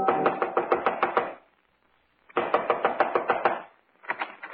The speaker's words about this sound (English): Within 15 minutes, I was knocking on his front door.